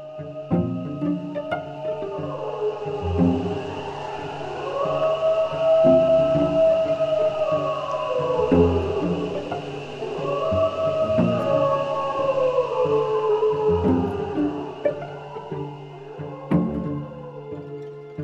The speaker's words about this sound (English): So after all his nights stalking wolves in the woods, Thomas knows when wolves howl and why.